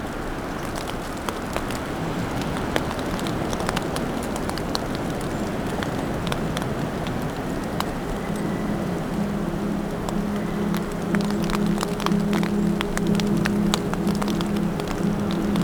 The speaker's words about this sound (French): Petite averse de neige. Entre les bourrasques du vent.